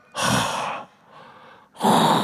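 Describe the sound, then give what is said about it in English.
A man imitates his wife's heavy, rasping breathing: a loud noisy inhale, a quieter hollow exhale, then another loud inhale, like a mechanical respirator. “I hear my wife breathing, all right?”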